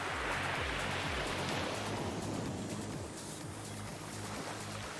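Steady roar of ocean surf washing onto a beach, a broad continuous rush of waves with low rumbling underneath, fairly loud with no voices.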